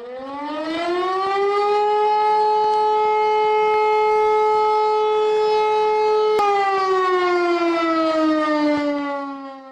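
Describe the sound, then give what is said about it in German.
A civil defense warning siren wails steadily at a high, sustained pitch, loud and continuous, then slowly winds down toward the end. No voices are heard. “Eine Sirene, oder Mariam? Genau, das war das, was die Kanzlerin am Dienstag die gute alte Sirene genannt hat.”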